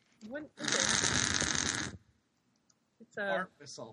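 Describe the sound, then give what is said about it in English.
A fart whistle lets out one loud, raspy, buzzing blast lasting over a second, followed by a short pause and then people's voices. “It's a fart whistle.”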